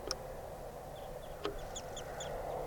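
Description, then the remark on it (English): Short, high calls of circling wild birds repeat in quick chirps as they come down to decoys, over a steady low background hum, with a couple of sharp clicks early on and no voices. “Circling wild birds.”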